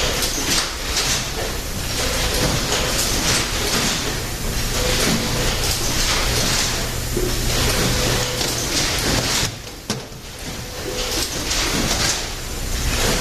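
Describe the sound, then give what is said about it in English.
Workers pack cassettes into green plastic cases, making a dense, continuous clatter of plastic knocking and snapping. It stays loud and busy throughout, with a brief lull near the end, and no one speaks. “The noise you hear on your left, my right, is people packing those green plastic cases.”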